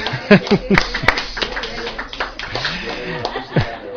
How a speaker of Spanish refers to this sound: Bueno, aplaudimos algo, ¿no?